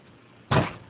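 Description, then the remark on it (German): A single short wooden clunk as a door swings open, fairly loud against a quiet background, with no voices. “Jetzt ist sie offen.”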